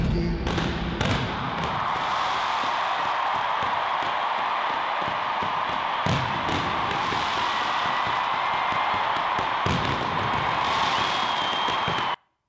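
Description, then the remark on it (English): A huge 80,000-person arena crowd at a stadium concert roars steadily while several sharp, booming blasts from fireworks and flamethrowers go off, a few close together near the start and others spaced further apart. “I've never had like fireworks and flamethrowers and all of that sort. We have a clip here of that going on, Jim.”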